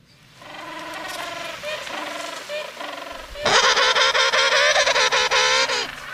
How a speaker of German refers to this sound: Pinguin. Ja. Der Was Pinguin. Pinguin. Pinguin. Ganz süße Tiere, finde ich. Ja, das stimmt. Und die sehen putzig aus. Besonders, so, wenn sie loswackeln.